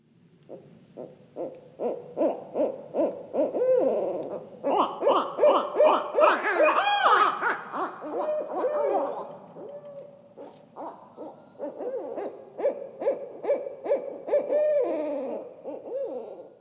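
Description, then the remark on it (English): Two barred owls caterwaul territorial calls back and forth in a loud, rhythmic chorus of hooting and cackling, rising into a frenzied, overlapping peak midway before settling into steadier repeated hoots; recorded by Garrett Vinn on a dark, moonless night in a bayou in Arkansas. “They spoke with Terry last Tuesday and began with the sounds of two caterwauling barred owls, recorded by Garrett Vinn.”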